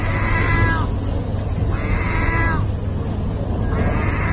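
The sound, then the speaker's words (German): A gull standing at a feeder for stray cats in Turkey, filmed on a mobile phone, lets out three drawn-out, wavering calls that sound strikingly like a cat's meow, evenly spaced, over a steady low background rumble. “Die Möwe steht vor einem Futterautomaten für streunende Katzen. Und dann legt sie los und miaut.”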